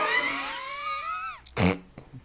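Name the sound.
coughing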